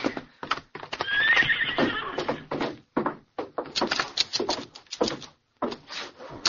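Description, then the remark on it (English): A horse whinnies loudly, its high wavering neigh rising over a steady clatter of hooves clip-clopping in a quick, uneven rhythm. “All right, get up your horse.”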